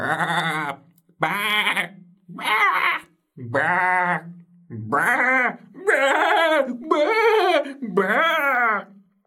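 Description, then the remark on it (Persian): A voice imitates sheep bleating at night: about eight wavering, nasal "baa" calls in steady succession, loud, each separated by a brief pause. “گوسفندان بعبع کردن.”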